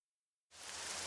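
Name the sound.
rain falling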